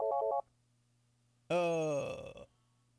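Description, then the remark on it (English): A short electronic phone ring from an incoming call, a quick burst of rapid trilling pulses, followed after a pause by a louder, buzzy warbling tone that fades out. No one speaks. “Somebody trying to call in already.”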